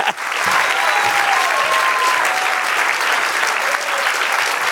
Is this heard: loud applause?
yes